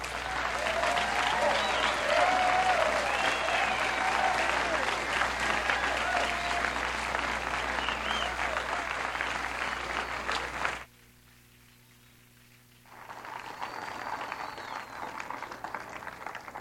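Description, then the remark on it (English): An audience at a live show claps for a performer who has just finished, in a loud, dense, sustained burst of applause that cuts off abruptly, followed by a brief hush and then a second, softer round of clapping. “Let's give him another hand.”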